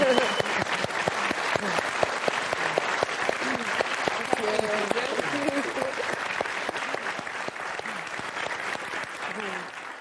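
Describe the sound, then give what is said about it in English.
An audience claps steadily throughout, a dense rattle of many hands at a constant loudness, with a few voices talking and calling out underneath. “But you give me a clap. I'm going to give you a clap.”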